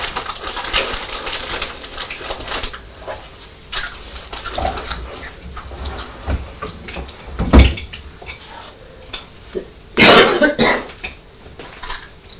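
Crunching on crisps: irregular, crackly bursts of chewing, some sharp and loud, others softer, with a longer noisy crunch near the end and no talking.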